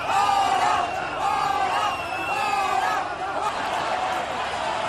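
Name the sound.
crowd booing and shouting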